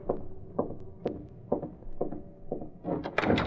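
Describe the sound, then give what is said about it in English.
The service door to Kane's apartment is unlocked with a skeleton key and opened: a steady series of soft clunks and clicks, ending in a louder, busier burst as the door swings open. No voices. “In a matter of minutes, Britt Reed, using a skeleton key, was opening the service door to Kane's apartment.”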